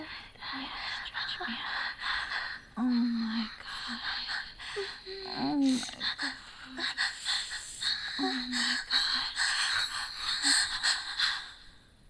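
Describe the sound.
Shaky, breathy gasps and heavy uneven breaths run throughout, broken by short voiced moans and a breathy voice exclaiming twice. Fairly loud and irregular.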